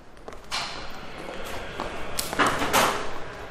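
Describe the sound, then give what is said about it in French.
Heavy oak doors of the Canadian Museum of Nature swing open and thud shut into the museum's vestibule with marble steps, echoing, with a few dull knocks, footsteps and a steady background hum. “Alors, on vient de franchir les portes majestueuses de chêne et on est dans le vestibule avec des marches de marbre qui vous permettent de voir déjà l'entrée du musée”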